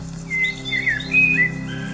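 A radio-play sound mix layers a single bird singing a series of high, thin chirps and short whistled phrases over a steady low hum of meadow ambience and a softly running brook, with a sustained chord underneath.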